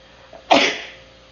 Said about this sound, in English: We explain by Bamidbar, and Pasha Shach says the Emek Davar, wait, I need to sneeze.